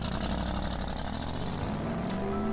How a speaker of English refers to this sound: I turned the key. "Please start." The car started, and I drove away.